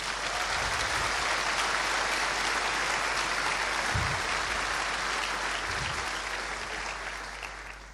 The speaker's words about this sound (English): We don't own these buildings. They are owned by the ULB, the Free University of Brussels, and they have kindly welcomed us in their buildings for the past 20 years, so let's also give them a big round of applause.